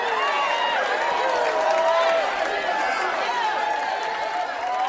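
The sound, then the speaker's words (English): A crowd cheers and shouts together, many overlapping voices rising and falling in pitch, loud and steady for the whole stretch without a break. “The crowd cheered their agreement.”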